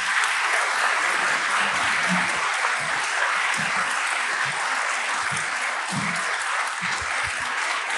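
Loud, sustained applause from an audience at an award ceremony as the first prize winner is called up, a dense crackle of many hands clapping steadily for the full stretch without letting up, with no voices standing out above it.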